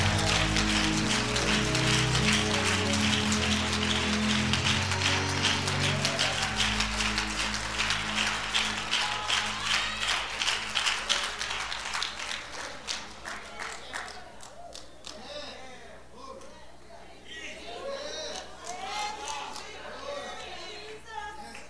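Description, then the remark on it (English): An audience claps its hands to give God the glory, a dense, steady patter over a low sustained hum, the clapping thinning out midway as voices rise and carry on over the scattered remaining claps. “Come on, clap your hands and give him the glory.”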